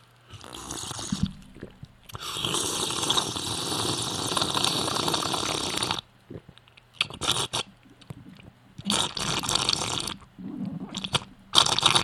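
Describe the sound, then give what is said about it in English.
Someone takes a sip of water, with loud crinkly, crunching bursts of handling noise, a long stretch followed by several shorter ones, and no talking. “Excuse me while I take a sip of water.”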